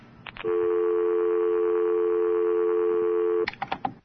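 A steady telephone dial tone hums for about three seconds, bracketed by quick beeps of keypad dialing before and after, clear with no voices.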